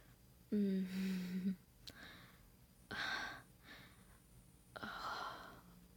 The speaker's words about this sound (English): I can hear your breathing. Getting heavier.